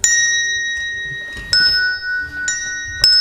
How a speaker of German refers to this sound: Der Wecker von Ida Aris brummte in voller Lautstärke.